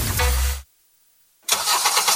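A car engine roars loudly, cuts out into a second of silence, then fires up again with a rough, pulsing rumble that keeps running.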